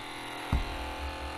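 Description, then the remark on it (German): A battery-powered portable cassette player, with headphones plugged in and a cassette inserted, is started and its motor whirs with a steady, buzzy hum, broken by one brief mechanical clunk partway through. It is fairly quiet, with no voices. “Und habe ihn gestartet und das klingt leider so.”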